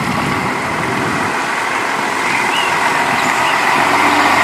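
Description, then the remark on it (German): A Timișoara city administration bus rumbles loudly and steadily with a broad mechanical hum as it pulls away at 5 a.m., carrying musicians and their instruments toward Austria. No voices are heard. “Die Musiker laden ihre Instrumente und ihr Gepäck ein, der Bus der Temeswarer Stadtverwaltung schließt die Türen und es geht los Richtung Österreich.”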